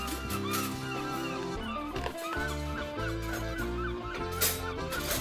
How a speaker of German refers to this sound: Und mit ein bisschen Fantasie hört man sogar Möwen.